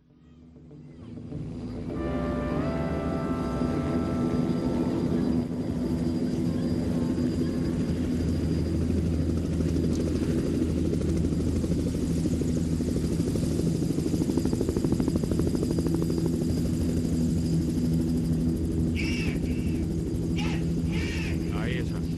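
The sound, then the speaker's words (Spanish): A helicopter's rotor thumps steadily and loudly as a song begins, a deep continuous whir filling the low end while faint musical tones and brief high chirps float above it. “Ocurre que esta canción comienza, es una de las pocas canciones que comienza y que tiene incluido en el sonido de la canción, el sonido de un helicóptero.”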